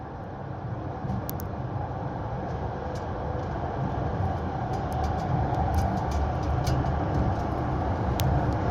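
Steady, loud rumble of a Zhengzhou Rail Transit Line 1 subway train running, heard from inside the car as it reaches its terminal, Henan University New Campus station, with a constant low roar and a few faint, sharp metallic ticks and rattles. No one speaks.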